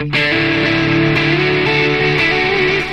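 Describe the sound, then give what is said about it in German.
A loud electric guitar with a delay effect and the reverb switched off plays sustained, overdriven notes with shifting pitches, each phrase trailing into repeating echoes that keep the sound full and washy, with no voices. “ist der Sound immer noch genauso wet wie vorher. Das ist so, Delay ist für mich einfach so das Ding, wo ich sagen muss, okay, damit kann ich so viel machen.”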